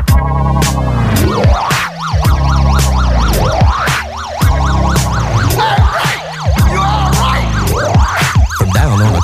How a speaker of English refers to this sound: Siren sound, and there are police all around, running up the fire escapes, flashing their lights